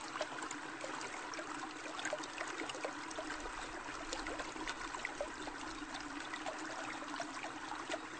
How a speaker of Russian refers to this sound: Источник чистой, горной воды, от таящих ледников, пробился к жизни прямо в саду, между яблонями и рядами виноградной лозы.